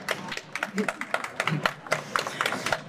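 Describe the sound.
Applause from a crowd, a steady patter of many overlapping claps at moderate loudness lasting throughout, with a few faint voices mixed in.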